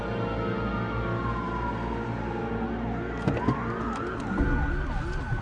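Police sirens wail and sweep in pitch as two patrol cars barrel down a narrow street at 3:03 a.m., the tones sliding down and then rising again over a steady engine and traffic rumble, fairly loud throughout.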